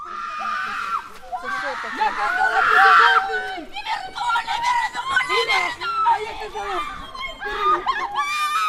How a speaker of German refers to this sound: Die Frauen schauen auf die Uhr. Da ertönt ein Schrei.